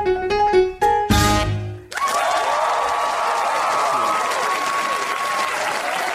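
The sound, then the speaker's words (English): A brief musical flourish gives way to steady audience applause at the comedy and music show The Horn Section, many hands clapping in a dense, sustained wash that holds at an even loudness for about four seconds. “Four more claps each, and then stop.”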